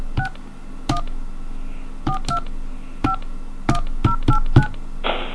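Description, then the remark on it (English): A string of about nine or ten touch-tone keypad beeps, short and fairly loud, punched in at an uneven pace as someone enters a Navy phone card number, ending with a brief burst of hiss. “Hello, and thank you for using your Navy phone card. Please enter your card number now.”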